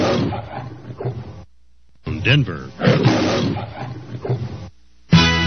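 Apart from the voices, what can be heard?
lion roar station jingle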